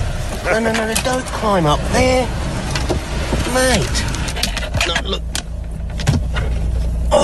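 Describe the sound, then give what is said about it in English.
A koala scrabbles and clambers about inside a parked car, climbing toward the front and tearing at the dashboard. Scattered scratches and thumps sound over a steady hum of the idling engine and air conditioning, while wordless voice sounds rise and fall. “You're tearing at my dash.”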